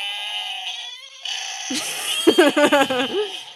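A shrill, wavering goat-like scream from a screaming goat sound effect machine toy made by Archie McPhee bursts out after a buzzy electronic hum, breaking into several rapid bleating pulses, loud.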